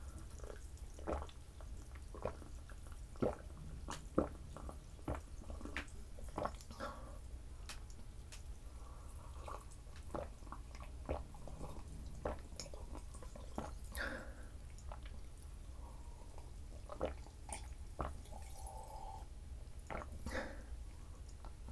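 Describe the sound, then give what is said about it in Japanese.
Carbonated water fizzes with scattered crackling pops, broken by soft slurping sips and small wet gulps. The sounds are quiet and irregular, with no talking. “炭酸水の音だよ。”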